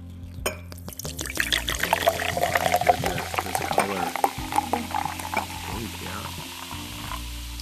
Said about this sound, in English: Okay, so let's get into this. I'm going to unseal it, uncap it. Nice little pop, effervescence. And we're gonna pour this in.